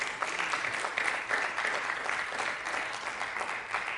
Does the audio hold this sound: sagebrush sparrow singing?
no